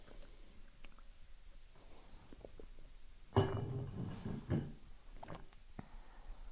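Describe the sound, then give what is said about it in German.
Quiet mouth sounds of someone taking a sip of water: a few soft clicks, then a louder gulping burst of swallowing lasting about a second, followed by faint wet smacks. No one speaks. “Aber ich trinke erstmal einen Schluck Wasser.”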